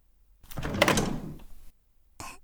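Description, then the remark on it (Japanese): A refrigerator door, with green tea chilling inside, is pulled open with a soft thump and a rustling, rattling swell that fades after about a second, followed by a brief clatter of contents inside. “あ、そうだ、昨日緑茶買って冷蔵庫入れてたんだ。冷えてるかな？”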